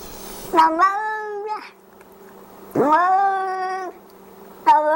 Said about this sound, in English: That's an old audio cassette recording of a cat named Arthur. He made his debut on CBC Radio some years back with a meow that sounded remarkably like hello.